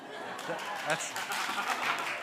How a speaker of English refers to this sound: You're clapping for her, just so you know. It's quite an achievement for her.